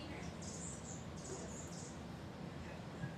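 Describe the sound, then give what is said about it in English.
A recorded hummingbird, played back on a phone, gives off a string of thin, very high-pitched buzzy chirps in short bursts over a steady low background hum. “So now at least you've heard a hummingbird.”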